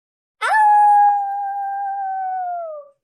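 A single long, sustained wolf howl, loud, holding a steady pitch for over two seconds before sliding down and fading out. No voices or other sounds.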